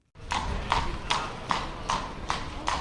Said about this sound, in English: A horse and carriage clatters through a square lined with orange trees in the warm winter sun.